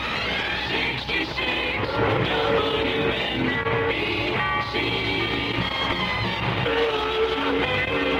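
A train rumbles steadily along with loud, sustained horn blasts sounding over the rolling clatter, continuous throughout.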